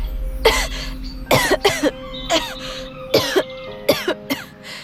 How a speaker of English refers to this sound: My throat burned as the strain of speaking sent me into a coughing fit.